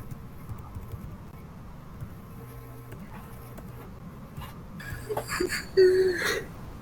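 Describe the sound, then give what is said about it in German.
A drawn-out, breathy yawn near the end, ending in a brief high whining squeak, after several seconds of quiet hum and faint background noise. “Ist gerade gegähnt?”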